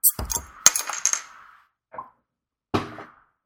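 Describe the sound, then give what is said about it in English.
A beer bottle from the Allstrom Brothers, bottled August 20, 2009, cracks open with a sharp metallic snap, followed by a brief rattling clink of the cap, then two shorter clicks after a pause. No one speaks. “So with that, I'm going to crack it open.”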